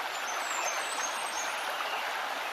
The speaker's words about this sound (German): Nimm dir ein paar Minuten, um den Bach zuzusehen und spüre, wie du dich immer mehr entspannst.